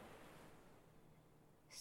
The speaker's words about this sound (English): Listen to the waves crash. Listen to the waves recede. Listen to the waves roll.